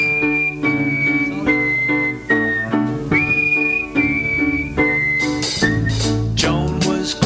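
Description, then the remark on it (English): A clear whistled melody moves in short stepped phrases over a full band backing of piano, bass and drums, steady and prominent for several seconds, with bright cymbal crashes near the end. “Whistling.”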